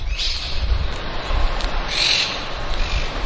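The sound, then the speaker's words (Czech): Harsh, high-pitched screeches from parrots ring out repeatedly in the garden around a university college building in Rome, layered over a steady low rumble of big-city traffic and outdoor noise, with no one speaking. “Při příchodu do areálu koleje k úctyhodné budově obklopené krásnou zahradou překryje ruch velkoměsta křik všudy přítomných papoušků.”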